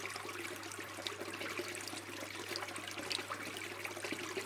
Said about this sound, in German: An diesem Bächli mit seinem fröhlichen Plaudern bleiben wir einen Moment lang stehen und hören den viel stimmigen Wassertönen zu.